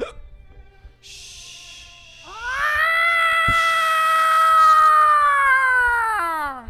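A cat lets out one long, loud, drawn-out meow that swoops up, holds a steady wailing pitch for several seconds, then dips at the end, preceded by a soft breathy hiss.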